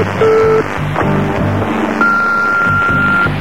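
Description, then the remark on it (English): A Long Wave Radio Atlantic 252 presenter dials the telephone number of a listener picked from the phone directory for a cash call. A short electronic tone is followed by a long steady beep, heard over rhythmic background music. “I'm ringing you up at, 7 minutes to 4 with a £1,000 cash call”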